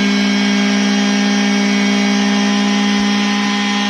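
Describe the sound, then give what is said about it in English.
A car engine runs hard at a loud, steady pitch, revved to clear it out and make sure it works, its buzzing, whining drone holding level with no speech, sounding a bit like a shop vacuum. “I thought you had a wet dry vac going off.”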